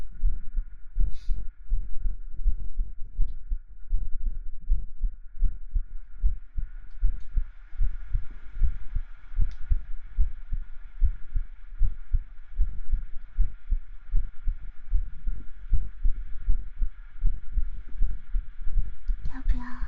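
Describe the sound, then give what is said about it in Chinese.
A steady, muffled heartbeat thumps in a regular rhythm for the whole stretch, each beat a soft low double thud over a faint constant hum. “像你姐姐的心跳，长得像就算了，心跳都不像。”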